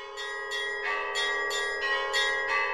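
Church bells peal over Hamelin in a steady, quick rhythm, each stroke layered over a sustained, ringing hum of overlapping tones. The ringing is fairly loud and continuous, with no voices.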